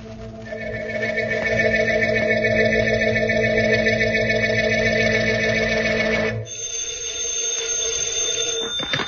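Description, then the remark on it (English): An old telephone bell at the District Attorney's office rings loudly and continuously at 2 o'clock in the morning with a harsh, metallic buzz, its tone shifting slightly about two-thirds of the way through. No one speaks. “Anybody that calls the DA's office at 2 o'clock in the morning doesn't rate as dignified an answer as that.”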